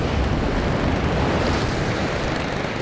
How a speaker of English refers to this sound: On the North Atlantic coast, a winter storm sends waves crashing over a rocky jetty.